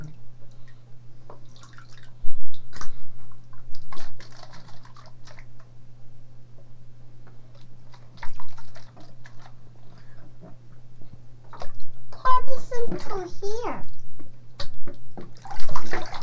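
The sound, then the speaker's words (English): Water pours into a container in a short gurgling burst near the end, after scattered drips and small clicks, all over a steady low hum. “Pour some water.”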